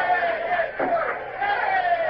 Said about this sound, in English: What are those idiots cheering about? From the noise they're making, you'd think they'd won Trafalgar.